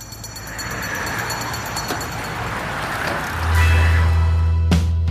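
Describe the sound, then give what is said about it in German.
Steady low engine rumble and road noise from inside a moving bus travelling to Raubling, south of Rosenheim, with a deep hum that swells louder partway through and a brief clatter near the end; no one speaks. “Wir sitzen also hier im Bus und fahren nach Raubling.”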